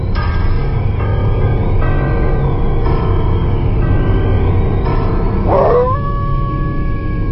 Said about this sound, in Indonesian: Setelah maghrib, suasana menjadi tambah seram. Kali ini, sesekali bunyi lolongan anjing terdengar di sekitar.